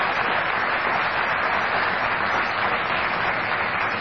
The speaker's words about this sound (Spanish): Después de lo que les dije, aplaudan.